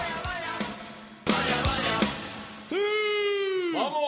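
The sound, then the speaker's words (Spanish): Footballer Ronaldo lets out his loud, drawn-out celebratory war cry on collecting the Ballon d'Or, rising and then dropping, ringing strong after a few short bursts of noisy clatter. “su famoso grito de guerra ese al recoger el Balón de Oro.”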